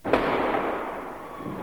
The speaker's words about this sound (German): Ein Blitz, ein Knall, die Sprengwirkung des illegalen Böllers lässt die künstliche Hand wegfliegen. Finger werden abgerissen.